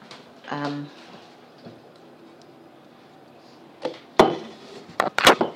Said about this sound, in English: Getting dinner ready, rather belatedly. I've got meat in the oven, it's gammon. And about to start peeling potatoes.